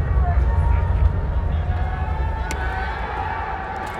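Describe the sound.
A large wrestling arena crowd cheers for Naito in a continuous, dense roar of many voices, loud and steady throughout, swelling slightly at first before holding at a sustained level.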